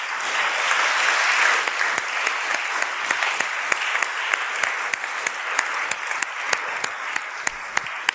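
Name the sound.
audience clapping applause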